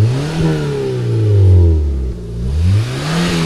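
The modern, ecological engine of a Syrena-style car revs up and down repeatedly, its pitch rising and falling in smooth sweeps, loud with no talking.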